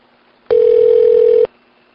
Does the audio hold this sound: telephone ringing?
yes